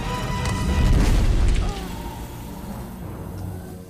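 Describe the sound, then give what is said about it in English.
A heavy stone obelisk tower breaks and crashes down in a deep, rumbling boom that roars for over a second, then cuts off into a lower, lingering rumble with faint higher tones. “The obelisk breaks and falls towards them.”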